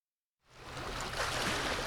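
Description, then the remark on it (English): After a brief silence, water laps and washes steadily along the shoreline of a Lake Superior bay, a continuous splashing murmur with no voices. “As water laps along a Lake Superior bay,”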